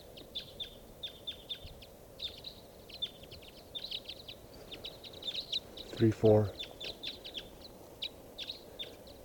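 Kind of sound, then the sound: bird, flock of birds calling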